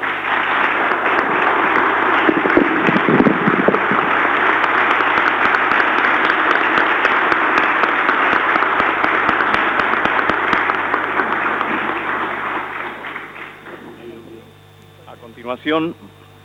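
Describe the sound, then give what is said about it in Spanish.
Sustained applause from a large audience at a decoration ceremony, in honour of a doctor who is present, dense and steady for about twelve seconds before fading out, followed by a brief burst of other sound at the end. “que también ha contribuido fundamentalmente y para quien pido especialmente un voto de aplauso.”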